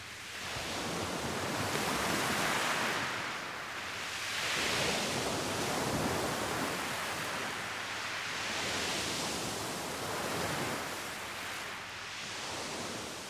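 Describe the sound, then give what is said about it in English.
Waves wash onto Aquablava, a cove beach in Spain, in a steady, hissing roar, swelling and easing in slow surges about every four seconds. No voices, just the continuous rush of surf. “They had been at a beautiful cove beach called Aquablava all day, enjoying the sun, water, and the sand in between their toes.”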